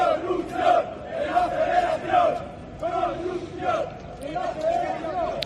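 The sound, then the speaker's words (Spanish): A large crowd of football fans chants in unison against Barça in a stadium, their loud, droning voices rising and falling in a steady repeated rhythm that carries through the whole stretch. “Y en los campos de fútbol los gritos de los aficionados van dirigidos contra el Barça.”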